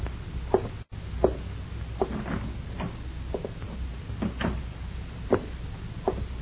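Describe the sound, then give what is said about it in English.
The door of a house is eased shut quietly, heard as a series of soft clicks and muted knocks spread unevenly over several seconds above a low, steady rumble, with no one speaking. “When you walk into this house, Lace, close the door quietly.”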